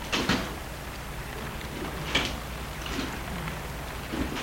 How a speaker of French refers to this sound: Et ils vont arrêter la voiture devant l'hôtel. Porte de voiture.